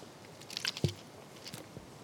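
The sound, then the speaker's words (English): A quiet gulp of water is swallowed, with faint wet mouth clicks and a soft thump around it, and no one speaking. “I get a drink of water.”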